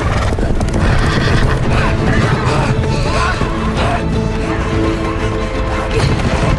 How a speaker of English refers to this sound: The ground trembles. A shockwave ripples toward them through the undergrowth. Run! A pack of horses gallops toward them.